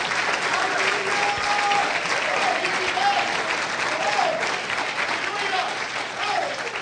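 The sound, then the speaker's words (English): An audience at a church service claps its hands in praise of God, a dense, steady wash of applause that holds loud for the whole stretch, with faint vocal tones and murmurs rising briefly underneath. “Oh, if you love him, clap your hands into him and bless his name.”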